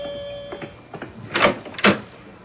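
A front door is opened: a few small latch clicks and rattles, then two louder scraping bursts as it swings, with a faint steady hum underneath and no voices.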